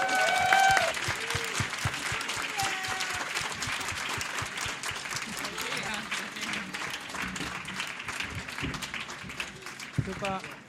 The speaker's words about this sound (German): Dann würde ich sagen, kommt jetzt aber und ich bitte noch einmal einen ganz großen Applaus für all die Leute, die das hier so toll gemacht haben.